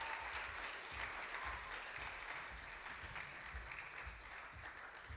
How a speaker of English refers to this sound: Let's keep the applause going